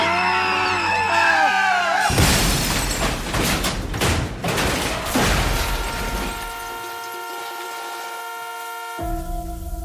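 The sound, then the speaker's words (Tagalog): Tires screech with a warbling squeal as a bus skids, then a loud, rumbling crash as the bus collides with an oncoming truck for several seconds, followed by a long, steady horn blaring. “Sumalpok ang sinakyan naming bus sa isang kasalubong na truck”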